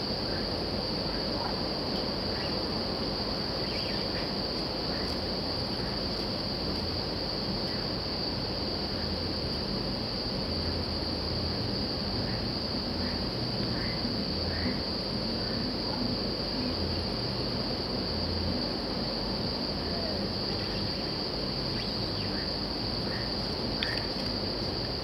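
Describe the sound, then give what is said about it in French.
A dense nighttime chorus of frogs croaking continuously from many directions, layered under a steady high-pitched insect trill, with no voices. “c'est les grenouilles.”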